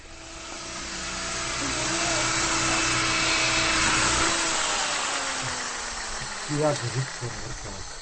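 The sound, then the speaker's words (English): A power drill whirs steadily as it bores holes into little pieces of wood in a tool room or shed, making tags for people at a special event, a loud continuous motor whine that holds its pitch, then slowly sags lower, with a few short knocks near the end. “What's happening now is that we're in the tool room, or in the shed, and the guy here is just drilling holes into little pieces of wood so that everybody gets a tag that they've been here this year for this special event.”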